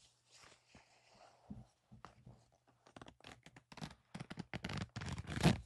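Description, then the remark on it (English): Rustling of clothing fabric, then a quick, scratchy zipper on a pair of pants being pulled up, rising in intensity near the end, with no one speaking. “And now your zipper.”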